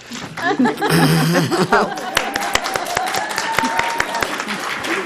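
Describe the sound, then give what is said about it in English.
An audience bursts into scattered applause welcoming a speaker before an evening presentation, sharp claps rising over laughter and voices at first, then continuing as a steady, moderately loud clatter of many hands. “No one ever claps for me.”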